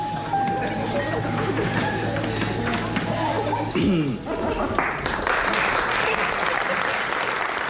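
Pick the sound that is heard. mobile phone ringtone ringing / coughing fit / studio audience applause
studio audience applause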